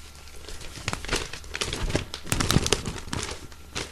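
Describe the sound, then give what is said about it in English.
Continuous rustling and crinkling of a printed newspaper's pages being handled and turned, with sharp crackly bursts scattered irregularly throughout and no voices. “Just so you know, it's an actual paper.”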